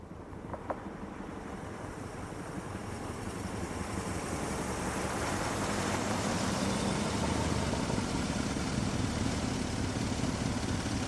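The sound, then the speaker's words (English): A car engine rumbles as the car comes back, swelling steadily in loudness, then settles into a continuous low idle, with a broad hiss of wind-like noise and no voices. “Now let's hear the car come back.”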